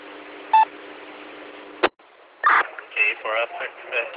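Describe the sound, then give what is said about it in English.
Over steady two-way radio hiss, a short, bright MDC digital signaling tone burst chirps once on a simplex channel, then a sharp click cuts the carrier before a voice comes on talking over the radio. “So when you do that on Simplex, my radio decodes your MDC tones and displays it on the LCD.”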